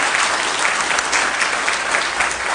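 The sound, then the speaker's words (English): A church audience claps steadily and loudly to applaud the Lord, a dense, continuous patter of many hands with no pauses, sustained throughout without any voices standing out. “I think we need to give the Lord an applause. Hand clap, everybody.”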